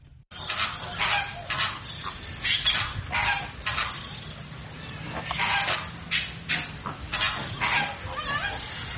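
A flock of flamingos in a walk-in enclosure at the World of Birds Wildlife Sanctuary honks nearly nonstop, many goose-like calls overlapping in busy, irregular bursts, loud, with a steady low rumble of background noise underneath.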